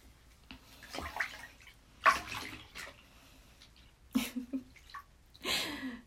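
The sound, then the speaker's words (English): Bubbles are blown through bath water in several short, irregular gurgling bursts, bubbling and splashy, separated by quieter stretches of faint water noise. No one speaks. “And bubbles. Bubbles are always fun.”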